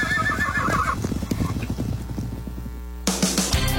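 A horse whinnies loudly, its wavering neigh fading as hooves clip-clop in a steady rhythm, ending with a burst of brighter noise and a few more hoofbeats.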